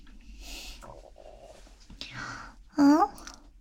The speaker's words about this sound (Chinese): 我好像听到你肚子叫了，是不是饿了？